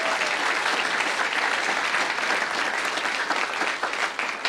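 A room full of people claps steadily, a dense, sustained wash of applause holding at a constant level throughout before easing slightly near the end.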